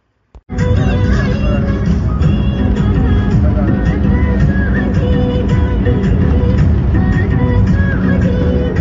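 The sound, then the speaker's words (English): Steady, loud rumble of a small crowded van travelling on the road from Kathmandu to Desi Sahar, heard from inside, with a constant engine drone and rattling, plus faint background chatter from passengers. “On the roads. Kathmandu to Desi Sahar in a little van.”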